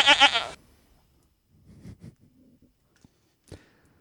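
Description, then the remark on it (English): A single loud, nasal goat bleat sounds at the start, then gives way to a few faint rustles and soft clicks in near silence. “I have many good goats.”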